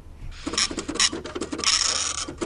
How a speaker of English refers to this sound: This show needs more printer. It's my favorite.